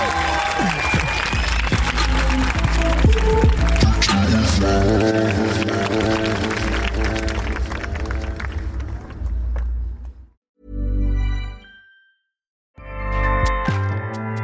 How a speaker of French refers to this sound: Ah, applaudissez plus, s'il vous plaît. Merci beaucoup.